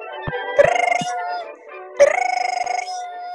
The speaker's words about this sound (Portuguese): Nossa, telefone fixo tocando. Só pode ser uma pessoa.